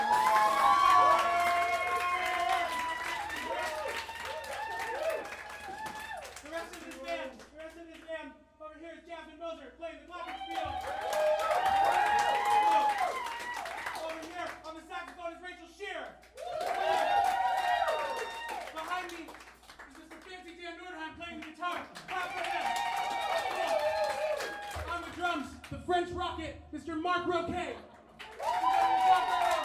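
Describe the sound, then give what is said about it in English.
An audience claps steadily while cheering and whooping, the shouts rising and falling in several loud waves over about half a minute. “We were going to clap for her.”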